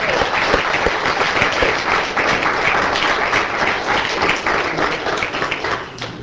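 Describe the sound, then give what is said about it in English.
A crowd claps steadily, applause filling the whole stretch with dense, even, fairly loud patter that barely fades before the end. “I think we should all clap for Rita”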